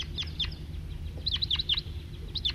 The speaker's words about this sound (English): there are a whole bunch of crossbills around here and there, including one male perched and singing, pointed at him, at the top of a fir, and a few scattered individuals around, and that's the lone male. Here comes a big flock, about 10,